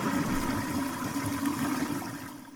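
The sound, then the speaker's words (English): A toilet flushes with a steady, full rush of water and a low gurgling undertone, holding strong for a couple of seconds before starting to taper off. No one speaks. “Chris's Flush of the Week.”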